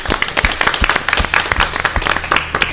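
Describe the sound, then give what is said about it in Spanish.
An audience bursts into sustained applause to welcome a guest who has just entered, many hands clapping in a dense, steady patter that stays loud throughout, with a few faint voices mixed in. “Un aplauso.”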